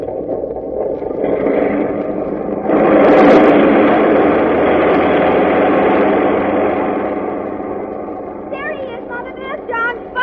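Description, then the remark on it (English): Airplane motors roar as a plane takes off, in a steady, dense drone that surges louder after a few seconds, holds, then gradually eases, with brief higher-pitched warbling sounds near the end. “Well, just as you say, dear, but I must admit that the roar of those motors always makes me a bit nervous.”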